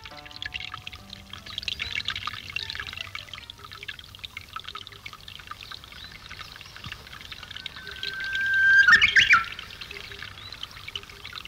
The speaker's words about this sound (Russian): Радио передает пение японского соловья.